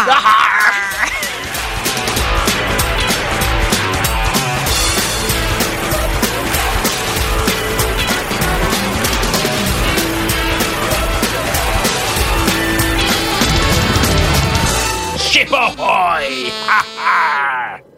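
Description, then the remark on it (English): The wooden hull of the ship MV Emily creaks and groans steadily for the whole stretch, loud, dense strained tones with rapid ticking pulses, easing off briefly near the end. “Oh, yes, she's creaking. She is creaking.”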